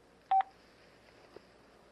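Two quick, loud keypad beeps sound back to back as a name is typed in on a device keypad, followed by a faint click and low background hiss. No one speaks.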